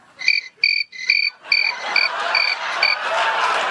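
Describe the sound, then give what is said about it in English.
Crickets chirp in a steady series of short, high, buzzing pulses, about two per second, growing denser as a rising hiss of night insects fills in behind them. No voices. “You know, you'd think planning a major speech like that, someone would have checked the White House for crickets.”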